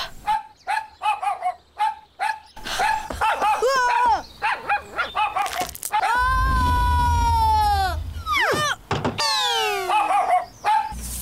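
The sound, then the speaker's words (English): A dog barks in quick, repeated bursts, then breaks into long, drawn-out howls and whining yelps that slide downward, loud and continuous over a busy background, as it comes after someone. “The dog is coming after me.”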